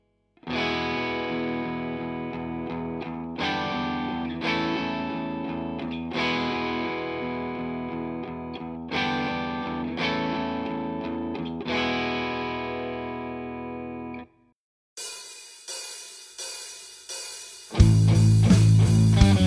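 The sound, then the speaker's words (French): Distorted electric guitar chords on the two high strings, played slowly with downstrokes, struck about every two seconds and left to sustain over a steady open low E string played in eighth notes, followed by a brighter, louder burst of playing at the end. “Et à la main droite, on joue tout en allée, ce qui va nous permettre de laisser résonner les accords pendant qu'on continue en croche de faire le Mi à vide.”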